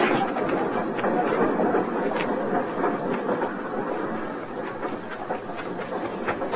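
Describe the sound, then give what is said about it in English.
A train rolls along the rails with a steady, dense rumble and faint rhythmic clatter, continuous throughout, with no voices. “Flora, don't you get on that train!”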